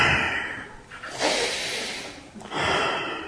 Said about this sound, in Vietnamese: Xong rồi, quý vị thấy rõ dùng ấn để mà tập cho lỗ mũi bên phải bên trái, mình hít vào và thở ra như vậy.